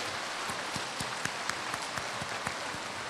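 A crowd applauds in a dense, steady wash of clapping, with sharper claps standing out in a regular beat several times a second, welcoming Director Lu Junhong to give a Buddhist dharma talk. No voices are heard.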